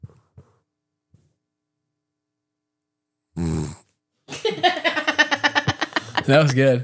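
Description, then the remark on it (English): A pet gives a short snorting grunt after near silence, then a longer run of throaty, pulsing grumbles and groans that rise and fall for a few seconds. “He said snore.”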